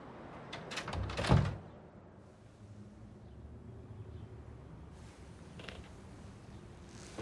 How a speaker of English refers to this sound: Shut that fucking door.